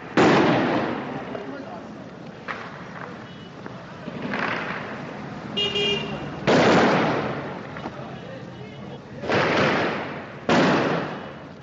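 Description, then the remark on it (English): Gunfire cracks out in a city street in Mosul amid looting and violence, several loud, sharp bursts at irregular intervals, each trailing off in a rough echoing decay over a constant murmur of street noise. “And within this, you know, the gunfire and the crying and who's really got the law and order authority, because frankly, Mosul is a majority Arab city,”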